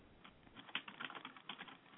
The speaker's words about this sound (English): You're typing. Can you hear me? Oh, hello? Yes, can you hear me? I can hear you. Oh, that's funny. I didn't think you saw me there, so I was typing to you.